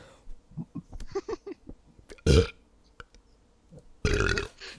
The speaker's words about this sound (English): That was all air. I'm sorry. That's all a burp is air.